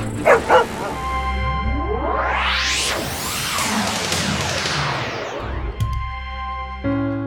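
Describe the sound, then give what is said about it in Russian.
A shepherd dog, Dina, a famous military dog, gives two quick barks, then a loud rushing whoosh swells and sweeps across the scene for several seconds before fading under a steady hum. “Расскажите, что это за овчарка и девушка с ней?”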